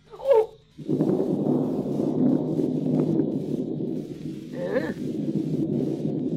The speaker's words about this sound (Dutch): Ben jij bang voor het onweer?